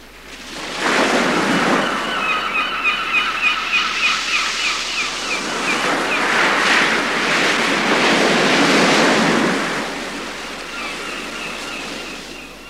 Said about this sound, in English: Our story begins by the sea, on a beautiful beach. In summer, the beach is full of people who swim or sit in the sun. But in winter, the beach is empty. You can only hear the big white birds, the wind, and the sea.